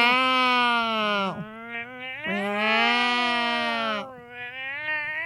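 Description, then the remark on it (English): A person imitates a cat in heat with two long, drawn-out yowling wails, loud and sustained, each sliding downward at the end, followed by a quieter trailing moan. “Thank you for our impressions of cats in heat.”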